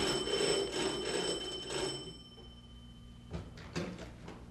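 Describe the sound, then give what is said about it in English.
A bright doorbell chime rings and fades as Mr. William Howard Doan rings the bell at Fanny's door, followed by a couple of soft knocks and clicks as the front door is opened. “It was an auspicious day when Mr. Doan came to Fanny's door and rang the bell.”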